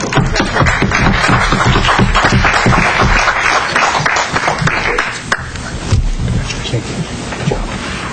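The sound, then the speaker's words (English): An audience applauds the debaters loudly at the end of a Friday night debate, a dense, steady wash of many hands clapping at once, thinning slightly toward the end but continuing throughout. “I think maybe we owe the debaters another round of applause for...”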